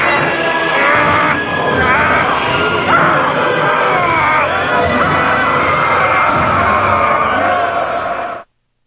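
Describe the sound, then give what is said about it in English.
A large crowd shouts and yells continuously as it surrounds a curator fighting them with a sword, a dense, loud wall of overlapping voices with occasional bellows and clatters, cutting off abruptly at the end. “As Rick jumps in the hole, the crowd surrounds the curator.”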